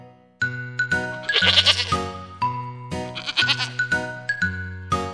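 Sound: goat bleating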